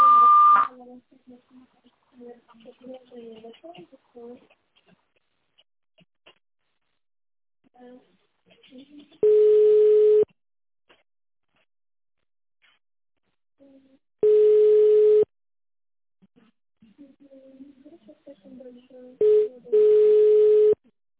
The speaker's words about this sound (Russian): Здравствуйте! Вы позвонили в Пятигорскую бальную грязь и лечебницу. После длинного сигнала переведите ваш аппарат в режим тонального набора и наберите внутренний пятизначный номер. Или дождитесь ответа секретаря.